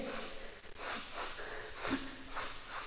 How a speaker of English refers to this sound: That's enough sniffing now, Little Toe. Put your nose away.